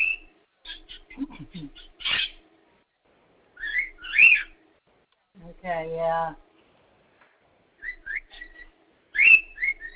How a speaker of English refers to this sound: Birds singing here.